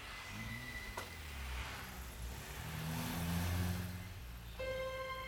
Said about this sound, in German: Schnell hob er sie wieder auf, stieg in seinen Wagen und fuhr davon.